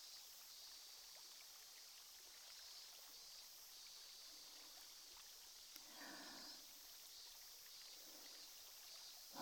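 Soft, steady fizzing crackle of a carbonated cotton swab inserted into the ear during ear cleaning, continuing throughout with a brief rustle partway through and no talking.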